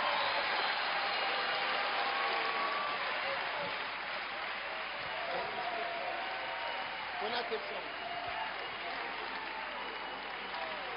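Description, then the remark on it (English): A crowd applauds steadily, a dense wash of many hands clapping at an even level for about eleven seconds, with faint voices and shouts mixed in beneath. “Clap for them, clap for them, clap for them.”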